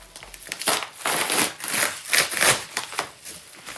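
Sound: package being opened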